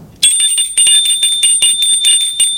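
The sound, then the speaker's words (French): A front doorbell of a house rings loudly, a rapid metallic trill of quick repeated strikes over bright sustained tones, lasting a couple of seconds with no voices. “Et sonne à la porte d'entrée.”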